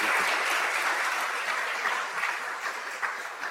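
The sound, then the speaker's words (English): A crowd at an event claps steadily for several seconds to welcome guest Professor Gary Marcus. It is a dense, even wash of many hands with no voices on top, fairly loud and sustained before tapering slightly. “So I ask that you join me with a round of applause to welcome our guest, Professor Gary Marcus.”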